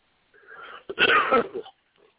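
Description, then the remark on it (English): A wheezy breath in, then a single harsh, raspy cough that trails off, fairly loud, with no talking around it, in cold weather in Ohio. “Sorry about the cough there, guys.”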